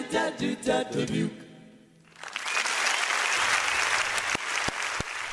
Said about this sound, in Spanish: Ko zna koliko su ovakvih naknadnih aplauza dobili momci